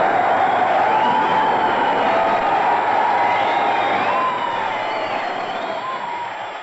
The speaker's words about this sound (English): Hear that applause, dear listener. It was not for Danny Kaye, not for Fred Lane. No. It was all for a commoner garden BBC announcer, Wallace Greenslade. How did he come by this rapturous applause?